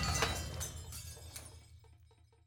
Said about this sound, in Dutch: Met een enorm gekraak begaf het podium het onder het gewicht van de stampende Luciano. En met een donderend geweld verdween het hele orkest in de diepte.